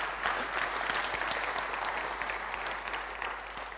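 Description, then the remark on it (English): An audience applauds at the end of a talk, a dense wash of many hands clapping at once, loud and sustained for the whole stretch without anyone speaking. “Who clapped first?”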